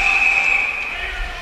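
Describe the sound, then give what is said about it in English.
A referee's whistle blows one long, steady, shrill note for about a second and a half, signalling Colby offside during the first period of an ice hockey game against Middlebury, fairly loud over the background hum of an arena crowd. “And so that whistle indicating that Colby is offsides there.”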